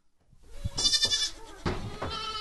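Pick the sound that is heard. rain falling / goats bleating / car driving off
goats bleating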